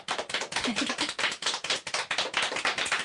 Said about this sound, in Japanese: 理想のシチュエーションセリフ編第3回戦、海にて岡橋一輝 VS 西山聖輝、先行岡橋くんのセリフが良かったと思う人は拍手。